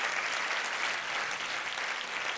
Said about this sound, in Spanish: Si ese es el aplauso, dáselo más fuerte al Señor.